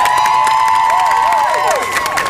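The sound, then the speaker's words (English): A crowd cheers and applauds loudly and steadily as an audience vote, with bright whoops and excited shouts sliding in pitch above a dense wash of clapping. “Let's do it by the sound of your applause.”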